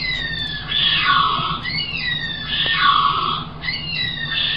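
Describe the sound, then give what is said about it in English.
A pair of nocturnal kiwis duetting a contact call: clear, high rising whistles from the male overlap a lower, hoarse rasping call from the female, repeating in about three phrases over a steady hiss of background noise. “It's actually a pair of kiwis. And so there's two parts to the call, and I can play them.”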